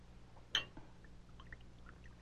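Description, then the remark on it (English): A drink is poured into a glass: a sharp glassy clink, then soft, faint trickling and gurgling over a steady low hum, with no voices. “Here, let me fill your glass for you.”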